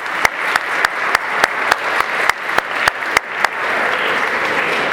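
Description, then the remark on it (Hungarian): An audience applauds teams that finished fourth in a competition, clapping steadily, with a few loud, sharp claps standing out in a regular rhythm over the dense clapping. The applause carries on at a fairly even level throughout, and no one speaks. “És az ő csapataik is részt vettek ezen a versenyen, ők pedig egy kicsivel csúsztak le a dobogóról, a negyedik helyen végeztek, úgyhogy tapsoljuk meg őket is, mert ők is nagyon jól csúsztak.”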